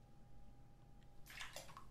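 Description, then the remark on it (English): Low steady room hum, then a couple of brief bright splashy bursts of water sloshing in the second half as a person is laid down into a filled bathtub; no talking. “Well, let's get you into the water then.”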